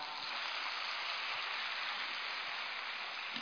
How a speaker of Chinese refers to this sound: 感恩师父慈悲开 示。鼓掌呀！